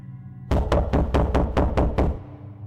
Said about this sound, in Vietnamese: Tiếng gõ cửa vang lên một chập, khiến tôi tạm quên đi cơn nhức đầu. Mọi người đều căng thẳng nhìn ra phía cửa.